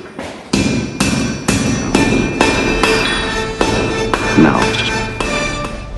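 A blacksmith's hammer strikes metal about a dozen times while making a blade, in a steady, even rhythm, each loud blow leaving a bright metallic ring that carries into the next.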